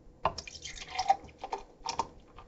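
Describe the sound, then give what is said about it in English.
Breckenridge Brewing Vanilla Porter beer is poured into a glass, a gurgling, splashy stream in uneven bursts with bubbly fizz, no voices over it. “And now I will pour.”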